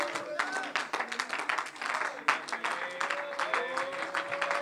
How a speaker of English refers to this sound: Come on, if you believe it, would you give the Lord a good hand clap of praise?